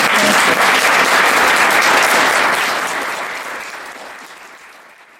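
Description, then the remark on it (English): An audience at a candidate forum at the Belgrade Public Library on October 26, 2022 applauds with dense, steady clapping that holds loud for a few seconds, then gradually thins and fades out toward the end. “And now would you applaud?”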